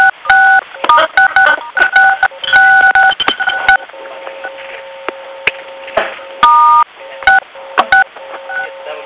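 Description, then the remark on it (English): Telephone keypad tones as phone buttons are pressed to mute the phone (6, or star 6): a quick run of short, loud dual-pitched beeps, then a pause with a faint steady hum before a few more scattered button tones. “If you will press 6, you'll be able to mute your phone.”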